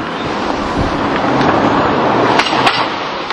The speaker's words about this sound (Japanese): 車が来るんでね。